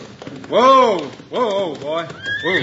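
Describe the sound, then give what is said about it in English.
A horse ridden into town by Hickok whinnies in loud, wavering bursts that rise and fall in pitch, with a steady clip-clop of hooves tapping underneath. “Now look, here comes Hickok now, riding into town.”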